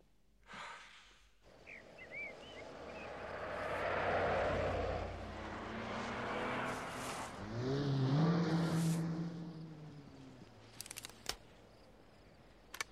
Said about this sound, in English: Bond's just left in convoy. Two cars and a jeep turning north onto the main highway.